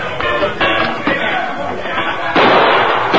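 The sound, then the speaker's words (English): A door crashes open, then several sharp gunshot-like bangs, fired into the ceiling during a holdup at the Sawdust Cafe, ring out in quick succession over a murmur of startled voices, ending in a louder burst. “As we go through the door, fire a couple of shots into the ceiling just as a warning.”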